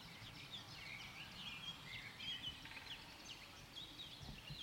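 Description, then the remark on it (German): Several birds chirp and twitter in a summer forest over steady, quiet background noise, their high, thin calls overlapping in scattered bursts throughout with no clear rhythm. No one speaks. “Also erstmal hört man es an den Vögeln, könnt ihr mal hören. Was machen die Vögel hier?”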